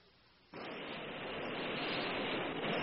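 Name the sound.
subway train arriving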